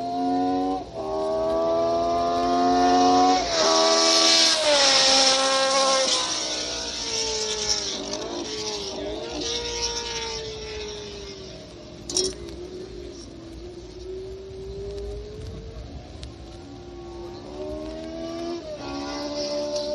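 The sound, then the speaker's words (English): A race car engine revs loudly, its pitch repeatedly climbing and dropping through a series of downshifts, with short blips between gear changes as the driver revs to the right speed for each gear, and a steady mechanical rumble. “This way a driver can rev the engine up to the right speed for engaging the gear that he needs to exit the corner with as much power as possible.”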